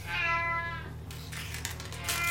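A restless male cat that has been scratching at the furniture lets out one drawn-out, fairly loud meow, followed by a second of soft scuffling noise over a low steady hum.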